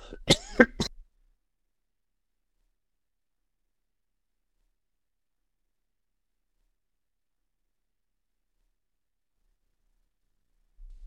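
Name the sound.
coughing fit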